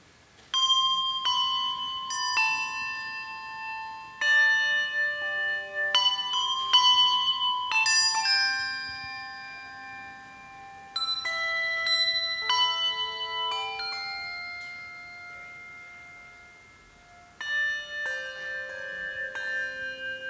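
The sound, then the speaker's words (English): Tuned bells ring out a melody, struck one after another in quick phrases with brief pauses between, each note clear and sustained with a shimmering decay, fairly loud, no voices. “Thank you, Bells. They're going to accompany us along with the piano as we sing some Christmas carols together.”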